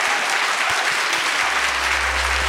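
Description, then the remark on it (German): Steady, dense final applause from an audience for authors Annika Decker and Jacqueline Scheiber, a loud continuous wash of many hands clapping with no voices standing out, while a low hum rises beneath it toward the end. “Es hat mir wahnsinnig viel Spaß gemacht und ich bitte jetzt um einen ganz, ganz, ganz großen letzten Applaus für Annika Decker und Jacqueline Scheiber.”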